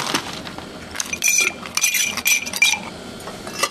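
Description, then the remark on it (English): Ice cubes clatter and clink into a cocktail stirring glass while a drink is being mixed, a quick burst of bright, hard knocks followed by a few more scattered clinks, fairly loud with no talking. “A little ice in the stirring glass.”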